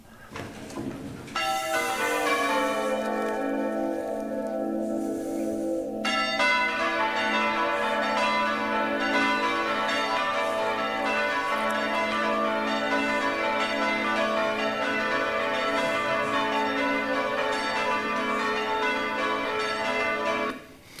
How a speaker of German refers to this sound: So, was ihr jetzt nicht gesehen habt, ist, dass die Kollegen dort, die italienischen Kollegen, die sowas als Hobby betreiben, mitunter in die schwingende Glocke eingegriffen haben und den Klöppel festgehalten haben, damit dieses Ding, Ding, Ding